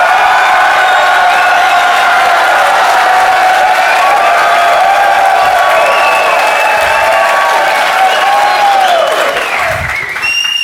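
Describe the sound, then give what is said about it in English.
An audience in a small room with thin walls screams and claps as loudly as possible for about ten seconds, a dense wall of cheering, whooping and applause that fades slightly at the end. “I want everybody to scream and clap for 10 seconds as loud as you possibly can.”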